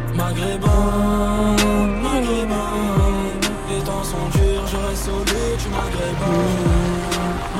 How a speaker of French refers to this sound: Gros gamos qui est passé là.